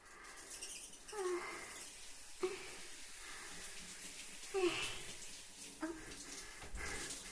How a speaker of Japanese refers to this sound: いいよ、シャワーで泡を流してと。